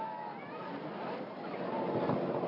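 A boat moving through water on an hour-long trip to the island of Erea: a steady, continuous wash of engine drone and splashing spray, moderately loud, swelling slightly toward the end.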